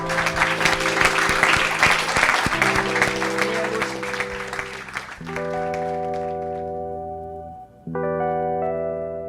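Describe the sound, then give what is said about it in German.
A live audience claps loudly for about five seconds while a closing jingle of sustained synth chords plays underneath; the clapping fades and the chords carry on alone. “Damit gehen wir in den Schlussjingle und einen großen Applaus.”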